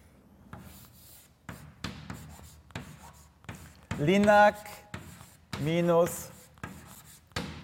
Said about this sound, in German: Die können Sie bei uns dann auf unserer Homepage, sollte ich vielleicht mal kurz aufschreiben, falls es einer nicht gesehen hat.